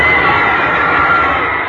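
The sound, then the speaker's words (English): A big crowd cheers loudly and continuously, a dense roar of many voices that holds steady from start to finish without any break. “Hear that crowd cheer?”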